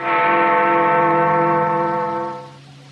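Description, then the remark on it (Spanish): A single deep clock bell strike marking 12:30 rings out loudly with rich, layered overtones, humming steadily before fading away over a few seconds. No one speaks. “es la campana. ¿No ves que ya son las 12:30?”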